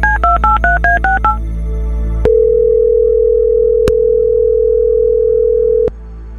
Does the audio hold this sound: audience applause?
no